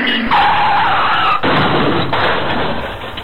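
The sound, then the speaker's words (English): A loud car skid with a sharp, wavering tire screech for about a second, then an abrupt impact as the car hits a person, and a burst of rough, noisy rumbling that continues to the end. “Why doesn't a car hit him? Watch this, you little piece of shit.”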